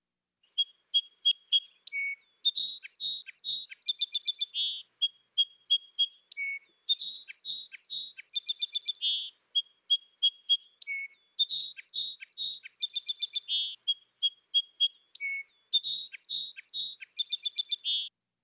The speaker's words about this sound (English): Now, what kind of sparrow are we going to hear? This is a song sparrow. Some are brave enough to spend the entire winter with us, and so they get to sing first and get the best territory.